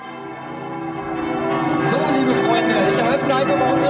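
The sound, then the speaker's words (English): Church bells peal in an overlapping, continuous clangor in the city of Cottbus, eastern Germany, on a Sunday morning, ringing on longer than usual beside a rally stage set up by the church. Their ringing tones swell slightly louder after the first second and hold steady. “On a Sunday morning, the church bells rang on longer than usual in the city of Cottbus.”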